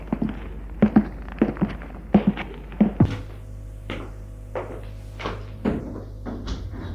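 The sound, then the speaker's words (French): The broken-in door of an apartment building thuds open, then a steady series of footsteps climbs the stairs up to the first floor, each step a dull knock with a low hum lingering underneath; no one speaks. “Il entre dans l'immeuble. La porte a été défoncée. Il monte jusqu'au premier.”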